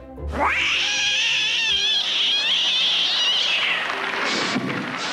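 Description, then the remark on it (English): Voice actor Frank Welker imitates a cat on a 1970s variety show, letting out one long, loud, wavering yowl that rises sharply, holds for several seconds with warbling pitch, then breaks into a few shorter strained cries near the end. “Here's Frank making cat noises on a variety show in the 1970s.”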